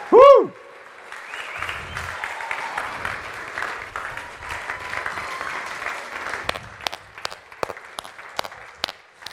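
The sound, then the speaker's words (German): A short whistle-like tone opens into dense audience applause from many hands, which holds steady for several seconds before thinning out into a few scattered, separate claps. “Geben wir den Leuten mal einen Applaus, die so coole Sachen gemacht haben.”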